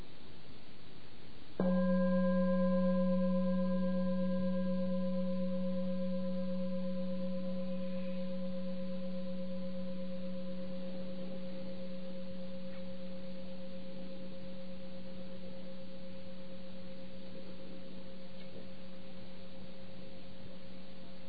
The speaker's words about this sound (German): Mit der Glocke hier. Hört einfach zu.